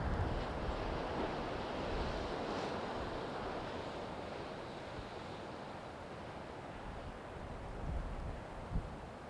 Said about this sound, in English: As you hear the sound of the waves, imagine them washing over the body, winds of change.